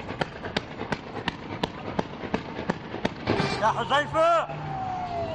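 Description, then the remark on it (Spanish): Street clashes during a riot in the Holy Land, Middle East, on the Day of Rage against US President Donald Trump's decision to recognize Jerusalem as Israel's capital: a rapid, irregular string of sharp bangs and pops, then loud shouting voices rising over the commotion, with a long sliding whistle-like tone at the end. “Es el sonido de los enfrentamientos provocados por el Día de la Ira contra la decisión del presidente estadounidense Donald Trump de reconocer Jerusalén como capital israelí.”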